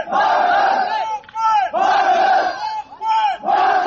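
A crowd of several hundred migrants, holding banners, protests at the border calling on Hungary to open it, chanting loudly in unison and repeating a short shouted phrase in steady bursts with brief pauses between each round.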